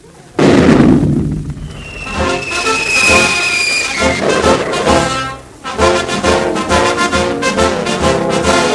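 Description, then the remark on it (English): A cannon fires with a sudden loud boom and explosion, followed by several seconds of rumbling, crackling roar and a brief whistling tone. No voices are heard. “Well, I was in that cannon you shot off and I landed in the water, oh, me.”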